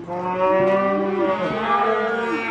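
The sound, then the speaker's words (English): Hundreds of cattle in pens outside a sale barn at Mocan moo at once before auction, overlapping low, drawn-out bellows that rise and fall continuously, fairly loud, with a crowded, busy feel and no talking. “Outside at Mocan, hundreds of cattle jostle in pens before they're brought into the sale barn”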